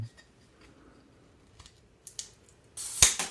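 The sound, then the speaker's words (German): Faint fiddling and scraping, then sharp clicks and a loud crack as a pen snaps while levering at the crown cap of a beer bottle, used in place of a bottle opener. No one speaks. “Oh, jetzt ist der Stift kaputt.”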